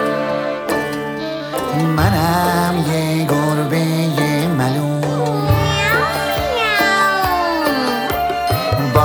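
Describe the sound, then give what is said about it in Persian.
A voice imitates a cat's meowing, singing as a cat, in drawn-out, sliding cries over bright, steady musical accompaniment, the meows repeating loudly throughout. “گربه شدم میو میو، ازم نترسی کوچولو. گربه ملوسم من، یه کمکی لوسم من.”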